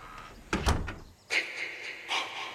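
A door opens downstairs: a couple of sharp thumps from the latch and frame, then a steady scraping creak as it swings or slides open, moderately loud with no voices.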